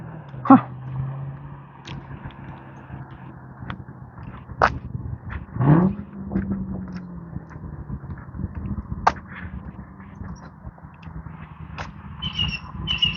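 A Mustang car engine rumbles low and steady as it passes, with a few sharp clicks and knocks cutting through the drone and a brief swell in loudness midway.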